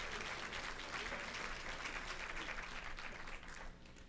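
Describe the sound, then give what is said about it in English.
Sustained applause from a large crowd giving themselves a round of applause, a dense, steady wash of many hands clapping at once, holding strong for several seconds before easing slightly at the end. “Now, if you believe that, give yourself a round of applause.”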